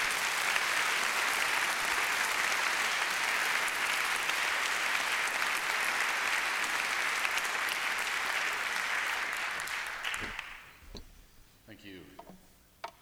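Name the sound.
audience applause in auditorium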